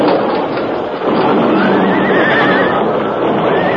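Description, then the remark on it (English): Horses pulling a stagecoach along a narrow trail near a cliff edge neigh and whinny in loud, wavering calls over a dense, steady rumble of noise, with the high, quavering cries rising clearly in the second half. “A sudden flash of fire and an ear-splitting explosion came without warning just ahead of the horses.”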